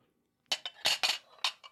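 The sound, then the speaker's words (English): Plates and cutlery clink together as plates are fetched for dinner, in a quick series of bright, ringing knocks, five or six sharp clatters in under two seconds, with no voices. “Here, let me get you the plates, and you go set up a nice place for us to eat on the couch.”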